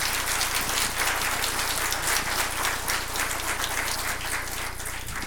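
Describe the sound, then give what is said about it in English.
Sustained applause from a large church audience for the youth group and youth pastor, a dense, steady patter of many hands clapping at even loudness for several seconds, with no voices over it. “And so I'd love for you to give our entire youth group and our youth pastor a round of applause.”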